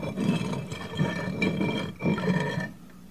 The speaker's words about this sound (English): Listen, the boulder's sliding back into place.